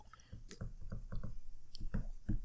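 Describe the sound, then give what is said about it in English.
Someone takes a sip of a fizzy 12-ounce canned American Mule tequila cocktail with lime and ginger, 7% alcohol, from Santa Monica, California: a run of wet gulps and swallows in a steady rhythm, with faint clicks and no talking. “Let's see. One sip.”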